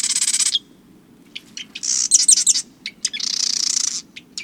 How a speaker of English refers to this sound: This chatty fellow is a marsh wren, a sprightly brown bird with a cocked tail. Wrens are known for their amazing singing, including loud, complex vocalizations. And they have a huge repertoire of songs.